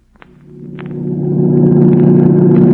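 A car engine roars up from quiet into a loud, steady drone, building over a few seconds as the car accelerates hard down the road at about 90 with the pedal only halfway down. No voices.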